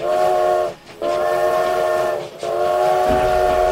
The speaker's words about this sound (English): Out to the west, a train carrying several boxcars roaring forward at 45 miles per hour. And to the west, another train, also carrying several boxcars, also roaring forward at 45 miles per hour. Both conductors lay on their whistles